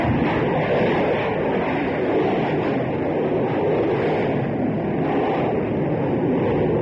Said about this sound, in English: There goes another plane taking off as Concorde turns, swings round. I've now got the tail view of her. there goes an Air France plane right above me.